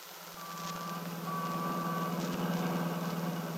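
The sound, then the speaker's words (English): Busy Chicago city traffic, heard from a taxi on the way to a hotel, hums and rumbles steadily, with a low engine drone underneath and a thin, high electronic beep sounding for a few seconds. No one speaks. “Seems so noisy. All the people, the traffic.”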